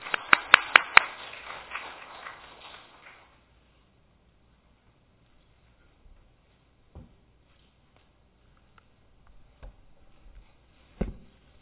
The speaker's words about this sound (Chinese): 好，所以我们拍手来欢迎